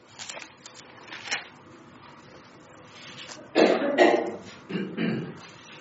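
A person coughs a few times in close succession, fairly loud, with a brief pause before the last cough, following a stretch of quieter rustling background noise.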